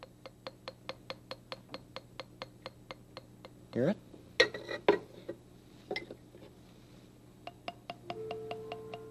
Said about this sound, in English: It is a musical instrument. And with this little hammer, you play pieces of wood.